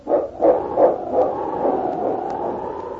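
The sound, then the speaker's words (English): King, a massive dog, barks four times in quick, evenly spaced succession, fairly loud, then his voice stretches into a longer drawn-out note, by a snowy ravine on a trail. No one speaks. “The massive dog gazed down at the ravine where his master had disappeared into the snowdrifts. And then, barking his determination, King turned and raced down the trail.”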